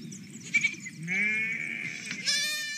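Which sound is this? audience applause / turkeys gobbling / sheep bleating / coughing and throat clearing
sheep bleating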